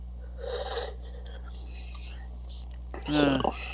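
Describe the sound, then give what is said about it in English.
A yawn: soft, airy breathing gives way near the end to a louder, breathy voiced sigh with a low hum underneath, lasting about half a second. “I'm sorry, I got caught with a yawn there.”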